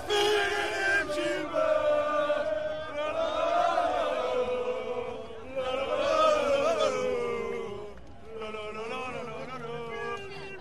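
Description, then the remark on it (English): A crowd along the course of the Doyenne bike race in Liège, Belgium, some wrapped in the Belgian flag and dancing, chants loudly in unison, rising and falling in swelling waves of many voices, with cheering and shouting mixed in and no break in the noise. “And there were people chanting and literally wrapped in the Belgian flag, dancing in this crowd.”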